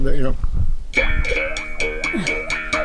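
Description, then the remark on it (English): A handmade Ozark picking bow is plucked in a steady rhythm, each twangy, buzzing note bending and wavering in pitch, preceded by a brief moment of voice. “So I made 26 Ozark picking bows like this one.”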